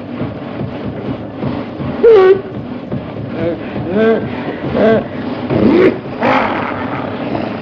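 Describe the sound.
A voice imitates a car engine sputtering: a run of uneven, coughing bursts and revving warbles, moderately loud, rising and falling over several seconds.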